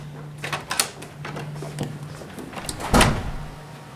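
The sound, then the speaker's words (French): A door leading from a narrow basement archive room to another room opens: a few quiet clicks and rattles of the latch, then a louder whooshing thud as it swings, over a steady low electrical hum. No one speaks. “Et une porte qui mène à une autre salle.”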